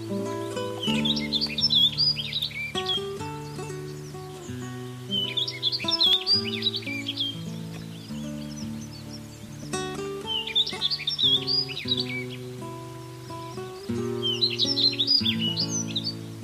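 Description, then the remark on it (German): A rustic bunting sings short, bright warbling phrases that recur about every four seconds, set over a steady background of soft instrumental music with sustained low notes. “Das war die Waldammer.”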